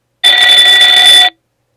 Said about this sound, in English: Alarm sound. To choose an alarm sound, say alarm 1, alarm 2, or alarm 3. Alarm 3.